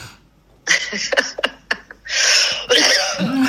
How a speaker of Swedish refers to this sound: Den klassiska hosten.